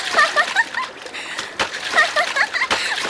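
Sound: water splashing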